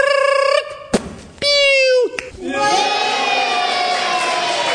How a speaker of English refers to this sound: By now, the crowd was going wild. We'd never seen anybody eating watermelon like this.